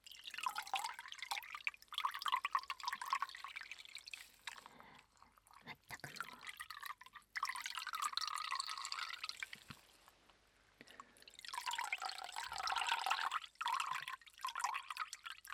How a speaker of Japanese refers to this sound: はい、というわけで、お水の音でした。